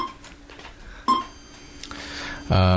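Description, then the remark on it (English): A short electronic beep sounds as quiz buzzers are cleared, followed moments later by a loud, harsh quiz buzzer tone that starts abruptly near the end, over a faint murmur of background noise. “10 points there to Clarence and clearing the buzzers.”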